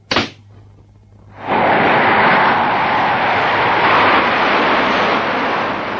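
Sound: jet airliner taking off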